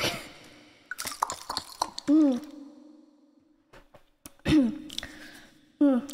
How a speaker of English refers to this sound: And if you ask me how I'm feeling, how I'm feeling is that I'm thirsty, so I'm gonna drink some water.